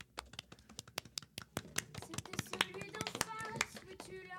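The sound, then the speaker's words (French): A small group claps steadily for a singer after her song, sharp overlapping hand claps building in density, with faint voices and tonal chatter rising toward the end. “Allez, on l'applaudit.”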